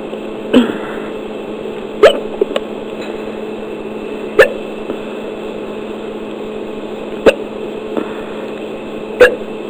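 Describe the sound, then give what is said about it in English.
Sharp hiccups repeat every couple of seconds, about six abrupt jolts over a steady background hum, with no talking in between. “Usually the hiccups will stop while I'm drinking, but as soon as I stop drinking, then they start again.”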